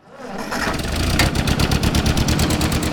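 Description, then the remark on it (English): A 1947 Ford 2N tractor engine cranks up and settles into a steady, loud, chugging idle with a rapid regular thumping rhythm, on a farm in Carlisle, Iowa, with no talking. “This 1947 Ford 2N tractor is the same age as its owner”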